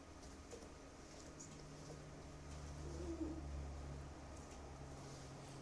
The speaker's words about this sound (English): I actually always listen for the wood frogs as the first frog that I hear in the springtime. Do you guys want to listen to that one? We won't hear it tonight, but we can listen to it on the frog call lookup.